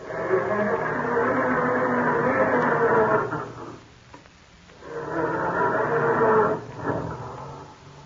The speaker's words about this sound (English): Or does your car sound more like this when Dad goes to start it up in the morning?